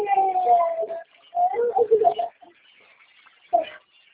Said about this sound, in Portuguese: E ela tá chorando.